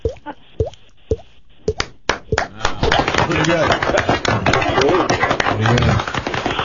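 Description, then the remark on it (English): A run of hollow, pitched plops from a man thumping his cheek, imitating dripping urine in an irregular patter, soon buried under loud overlapping talk and laughter. “He does it by thumping his cheek of dripping urine.”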